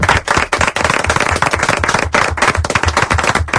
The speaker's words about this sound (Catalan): Un aplaudiment per ell, que carai.